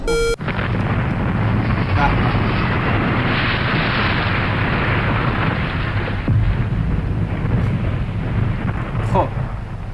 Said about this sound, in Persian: خب الان ما سقوط کردیم.